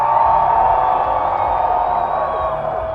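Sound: crowd cheering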